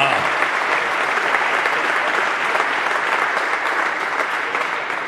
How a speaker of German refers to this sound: Erstmal, das ist ein Applaus wert. 500 Kilometer für den heutigen Abend. Ja.